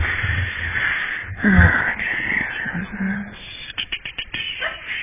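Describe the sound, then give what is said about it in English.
A short, forceful sneeze bursts out over a low, muffled background, followed by breathy, wheezy sounds and a quick run of faint clicks. “Bless you.”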